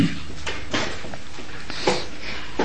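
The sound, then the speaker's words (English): A door is pushed shut with a few dull clunks and knocks spread over a couple of seconds, moderately loud with soft background rustle. “Excuse me, could you close the door, please?”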